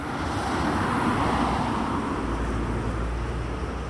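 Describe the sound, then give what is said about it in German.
Heavy traffic on the busy main road through Art, a steady loud roar of vehicles with a deep low rumble as trucks and concrete mixers pass, continuous throughout with no voices. “Auf der Hauptstrasse durch Art ist viel Verkehr unterwegs. Lastwagen fahren durch, Betonmischer rollen an.”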